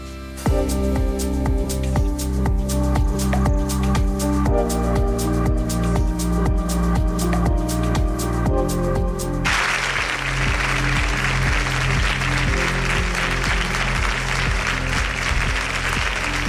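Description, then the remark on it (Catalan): A rhythmic musical passage gives way, about halfway through, to an audience's loud, dense, sustained applause that carries on steadily to the end with no voices over it; a minute-and-a-half ovation for Gisèle Pelicot at the Biblioteca de Sarrià after she presented her memoir with journalist Neus Tomàs. “Aquesta ovació que ha durat un minut i mig ha acomiadat Giselle Pellicot de la Biblioteca de Sarrià després de la conversa que aquest vespre ha mantingut amb la periodista Neus Tomàs, una conversa en la qual ha presentat el llibre de les seves”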